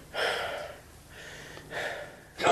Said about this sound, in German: Er atmet schwer.